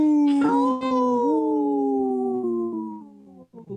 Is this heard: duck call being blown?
no